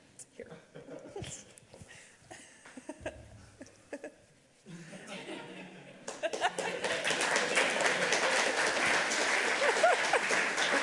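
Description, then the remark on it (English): Scattered murmurs and a few isolated claps, then audience applause for a speaker finishing his talk breaks out and swells into a steady, dense clatter of many hands that stays loud through the end. “Round of applause.”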